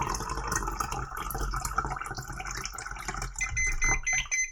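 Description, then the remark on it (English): Tap water runs in a steady, rushing stream into a cup being filled, the splashing continuous throughout, with thin high-pitched beeps from a water-level alert device in the cup emerging faintly over it near the end. “So I'll turn on the tap now and we'll start filling this up.”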